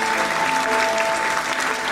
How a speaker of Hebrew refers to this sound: הקהל פרץ במחיאות כפיים.